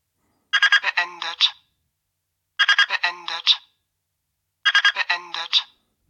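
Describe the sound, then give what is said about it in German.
A digital cooking thermometer's temperature alarm, signalling that the preset temperature of 34 degrees has been reached, plays a short, bright electronic beeping tune, repeated three times with brief pauses between, each burst lasting about a second, with no talking. “Dieser Alarm geht eine halbe Minute.”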